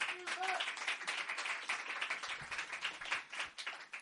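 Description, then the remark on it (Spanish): A crowd applauds a bass player steadily for the full few seconds, a dense, continuous wash of many hands clapping, with a brief whistle or cheer near the start. “Otro aplauso muy grande para él, gracias.”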